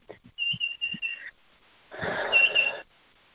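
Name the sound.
birds chirping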